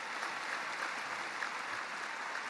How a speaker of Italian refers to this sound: L'applauso a distesa dei 100.000 che occupano il lungo e largo Piazza San Pietro suggella il crescendo conclusivo del Papa